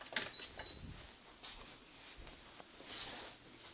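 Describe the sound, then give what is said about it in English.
Several short, high electronic beeps and soft clicks as the air conditioning is switched on, followed by a faint mechanical whir; quiet, with no talking. “let me turn the air conditioning, this might help.”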